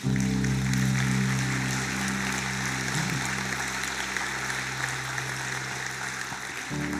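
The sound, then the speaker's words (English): A church audience claps for people who came forward to be saved, in a steady, dense wash of applause, with a sustained low keyboard chord held underneath that cuts off just before the end. “Yeah, we're just applauding the courage God has given you.”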